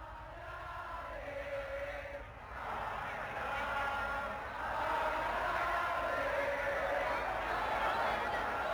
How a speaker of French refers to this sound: Et enfin dans un village en Inde où une foule quasiment en transe chante une mélodie à 5 notes qui leur serait venue du ciel.